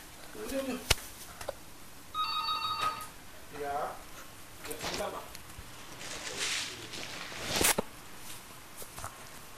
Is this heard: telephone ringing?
yes